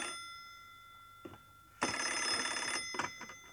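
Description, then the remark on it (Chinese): A telephone bell rings loudly, a harsh metallic jangle sustained for about a second, preceded by a brief clatter and followed by a few short knocks. “那电话铃又响了起来。”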